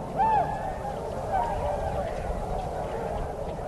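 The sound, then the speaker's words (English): A flock of snow geese, a mass of large white birds at the water's edge lit golden by the sinking sun on a chilly February 2005 day, calls, a few sharper honks rising out of a constant raucous chatter of many birds blended into a steady wash. “So one chilly Saturday in February 2005, I found myself standing by the water's edge with my tape recorder, looking out at a mass of large white birds lit golden by the sinking sun, and listening to their raucous racket.”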